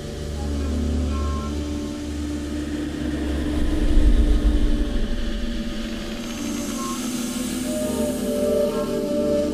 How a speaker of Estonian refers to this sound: Siuke lennuki moodi heli, mis siin vahepeal on, see on see sama, mida ma käsisalvestajaga salvestasin. Eks ma sellega seal käisin ringi ja püüdsin seda lihtsalt sahinat teha natukene põnevamaks.